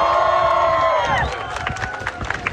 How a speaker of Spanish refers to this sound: El aplauso de sus adherentes, quienes le estaban esperando, se ha excusado, no alcanza a hablar con la gente que lo estuvo esperando